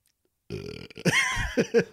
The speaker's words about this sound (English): I'm really sorry about that. But whenever you come back to heaven, the re-entry gives you a little bit of the burps. Oh, you get a little gas. Mm-hmm. You get a little bit of the old burpy burpees.